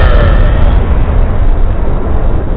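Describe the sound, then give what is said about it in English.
A loud stock explosion sound effect from a free stock media website: a dense, rumbling roar heavy in the low end that holds steady for a couple of seconds without dying away, with no voices. “That is a big-time loud explosion that I got from some free stock media website.”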